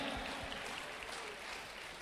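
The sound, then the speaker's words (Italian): An audience applauding Jesus Christ at the end of a prayer, a dense, steady patter of many hands clapping evenly for a couple of seconds, moderately soft with no voices standing out. “Fai del bene ad Israele, Signore, e aiuta quanti ti invocano nel nome di Gesù Cristo, che applaudiamo benedetti in eterno.”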